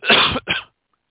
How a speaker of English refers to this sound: Excuse me while I cough and take a drink of water.